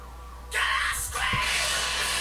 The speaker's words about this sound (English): Can I scream? Yeah.